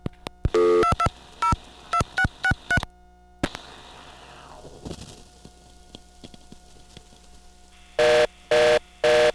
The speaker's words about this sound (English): However, on this one, you have to dial 2622. Now, if you dial something other than 2622, you get that reorder back again, as demonstrated here.